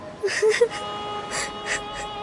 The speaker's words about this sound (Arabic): كفى بكاء، وإلا سأبكي معكما.